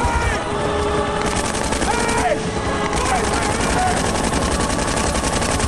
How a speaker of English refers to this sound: Shooting his rifle in the air, Burnett waves frantically, unseen by the departing chopper.